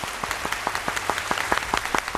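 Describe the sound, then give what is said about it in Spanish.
A crowd claps steadily, with many overlapping hand claps forming a dense, crackling wash of applause at moderate volume, with no voices over it. The applause is for the day's guests at the end of the programme. “El aplauso de hoy para ellos, claro que sí.”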